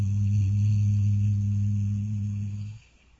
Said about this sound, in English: At the same time, make the sound hum for 2 or 3 minutes. Hum.